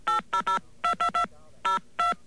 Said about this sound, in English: Now, we're going to dial that number.